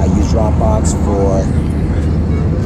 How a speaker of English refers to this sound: So actually also bear with me with the noise. It's obviously, again, I'm on the plane. There's a lot of people around me and just, yeah.